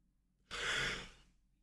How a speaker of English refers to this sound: Sorry, I was yawning.